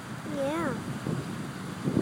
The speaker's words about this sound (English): Yeah. Oh, it's nice out here. The wind. Oh, hear the waves.